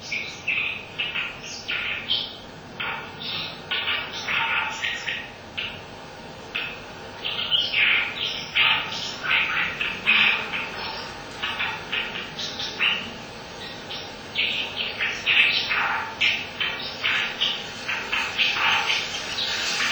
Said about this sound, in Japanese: 湯川の、カーナースは今頃、まだ、今年は暖冬で、雪もないので、赤沼から湯川のほとりをたどっていらっしゃれば、きっと、カーナースのこのさえずりが聞かれると思います。